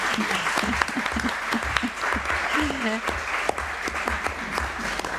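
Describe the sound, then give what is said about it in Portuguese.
A crowd claps steadily in sustained applause for a school theatre teacher, a dense, loud patter of many hands, with a voice briefly audible beneath it. “Uma salva de palmas também para a professora de teatro”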